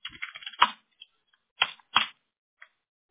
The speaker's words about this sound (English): And I'll do some typing on my end here while we wait for that to come through.